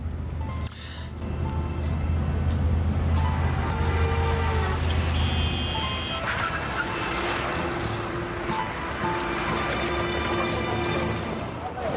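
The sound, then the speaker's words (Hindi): A car speeds along with a loud, continuous engine roar and road rumble, punctuated by rattles and clunks, while muffled voices are faintly audible underneath. “बाबा जान, बहुत तेज गाड़ी चला रहे हैं आप, आहिस्ता करें।”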